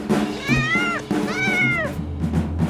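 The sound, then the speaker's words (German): Two drawn-out, rising-and-falling cat meows from a video game, loud, over a steady low background hum and game sounds. “Es fängt genauso an, die Katze schläft im Sonnenschein, aber sie hat einen wilden Traum und dann stürzt sie ganz dramatisch von ihrem Schlafplatz ganz oben von dem Hochhaus ab.”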